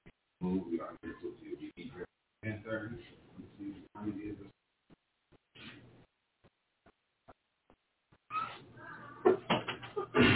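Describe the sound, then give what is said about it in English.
A door opens with a few clunks and rattles near the end as people walk in, after a stretch of muffled voices and some sparse faint clicks. “Okay, they're not protecting my door. I got people walking in the door.”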